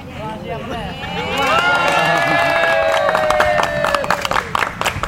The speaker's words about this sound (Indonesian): Unta berumur 20 tahun dan bernama Salsa tanpa ragu berjalan memilih makanan yang berada di atas logo bendera Kroasia. Tepuk tangan penonton langsung terdengar di lokasi tersebut.